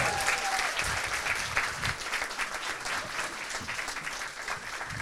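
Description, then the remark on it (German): An audience claps steadily throughout, a dense, even wash of many hands with no voices standing out, holding at a fairly loud level for several seconds. “Einen großen Applaus.”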